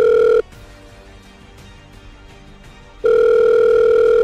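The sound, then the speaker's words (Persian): A phone line ringback tone sounds through the receiver after a number is dialled to call the head of a strike and operations team: a steady electronic tone, a pause of several seconds, then the tone returns, fairly loud with no talking. “گوشی را برداشتم. شماره موسوی مسئول تیم ضربت و عملیات مجموعه را گرفت.”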